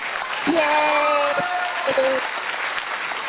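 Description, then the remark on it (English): A crowd breaks into steady, dense applause in honor of Miss Kitty, lasting a few seconds, with a couple of drawn-out cheering whoops rising above the clapping early on. “I think we should have just one more round of applause for Miss Kitty.”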